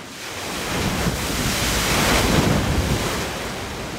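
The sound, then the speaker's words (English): A wave, made by a big engine, rushes through a wave research lab tank almost as long as a football field at OSU, a broad, steady roar that swells gradually and stays loud, with a churning, surf-like wash and no voices. “Then the wave heads toward us.”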